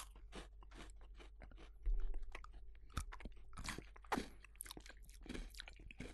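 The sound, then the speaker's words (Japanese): Crunchy chewing of orange peel Pocky snack sticks, a steady run of crisp, irregular crackles and bites with a few louder snaps, no talking over it. “食べますよ。”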